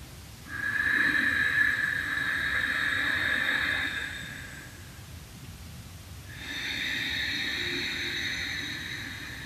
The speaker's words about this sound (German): Ihr hört ja das Geräusch, also wenn man Ujjayi atmet, ich mache euch das mal kurz vor, aus dem Stegreif.